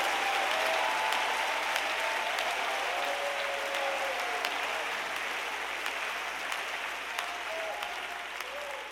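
A crowd applauds steadily for the whole clip, clapping and raising their voices to give God praise, a dense, continuous wash of many hands clapping with scattered shouts and voices rising through it.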